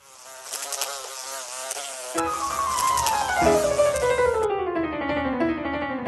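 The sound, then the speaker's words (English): Loud, steady buzzing of flies with no talking: a thin whine at first, then a deeper, harmonic drone that slides gradually downward in pitch. “Wouldn't it be wonderful if your horse could enjoy a zone of repellency from pesky flies?”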